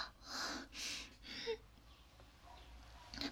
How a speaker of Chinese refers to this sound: 是的，他现在这是很熟呢，都有点打呼噜的迹象了。